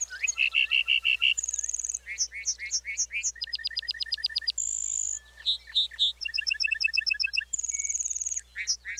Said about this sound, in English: Flying back to earth, the bunting belts out a complex series of trills, whistles, and buzzy phrases.